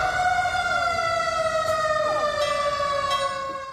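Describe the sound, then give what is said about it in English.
Sirens wail steadily with sustained, slowly shifting tones, loud and continuous throughout, with several overlapping pitches gliding against each other and no voices, sounding around 5:12 a.m. in San Francisco to commemorate the 1906 magnitude 7.9 earthquake. “Sirens went off around 5:12 a.m., the time when the magnitude 7.9 quake struck.”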